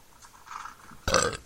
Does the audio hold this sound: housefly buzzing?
no